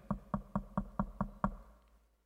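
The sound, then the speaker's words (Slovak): Seven soft, evenly spaced knocks on a wooden door, tapping in a quick steady rhythm and then stopping, leaving a brief quiet tail. No voices are present. “Nebucha, klope, ticho klope na tie dvere nášho srdca.”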